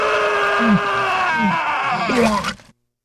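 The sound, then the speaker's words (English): A loud, strained human scream that breaks into groaning, retching heaves, with a few rising gulps underneath, lasting under three seconds before cutting off abruptly. “Well, you scream and puke in the morning.”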